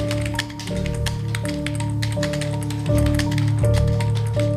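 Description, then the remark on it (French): Rapid, irregular keystrokes clatter on a keyboard as numbers from paper listings are typed in, fairly loud, continuing for several seconds over a steady low humming drone with no talking. “Ce qui veut dire qu'il y a 3 gars du groupe dont le boulot, depuis plusieurs mois, c'est de rentrer les numéros. Comme ça.”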